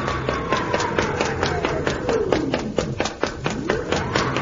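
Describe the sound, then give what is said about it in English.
An automatic castle door swings open with a steady train of rapid mechanical clicks and a whining tone that glides downward in pitch, fairly loud, with no talking. “Hey, now the door's swinging open again. It is automatic.”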